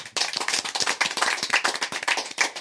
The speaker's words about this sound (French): on peut l'applaudir.